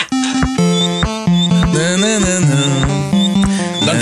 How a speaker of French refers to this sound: Donc, je vous fais entendre un thème. Dites-moi, c'est quoi ce thème-là qui vient directement de notre enfance des années 90?